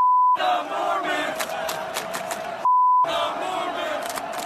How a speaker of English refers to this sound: listen to how some fans at the University of Oregon this past weekend were chanting